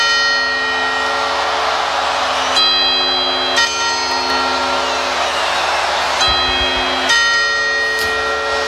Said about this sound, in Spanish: Las 12 campanadas de la Puerta del Sol de Madrid marcan el inicio de un nuevo año